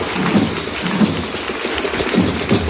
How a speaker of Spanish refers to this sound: Y con este aplauso, la Plaza de la Campana agradece que haya llegado hasta aquí la que es Madre de Dios y Esperanza nuestra. la Virgen de la Macarena